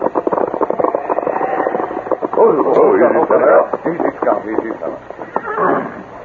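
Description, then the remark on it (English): A horse carrying the Circle C brand whinnies loudly in the middle, a rising and falling cry, amid a busy stretch of clattering hoofbeats, all with a narrow, muffled, old-broadcast tone. “Easy, Scout. This horse carries the Circle C brand, Tonto.”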